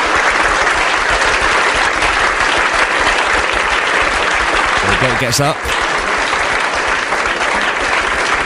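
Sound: applause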